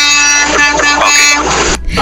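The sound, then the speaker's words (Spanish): A loud, sustained truck horn blares with a harmonic-rich tone for nearly two seconds, then cuts off abruptly before a short burst of noise. The horn is sounded as a greeting. “No se escuchó mi saludo de claxon antes de iniciar con tu relato, pero ahí viene otra vez.”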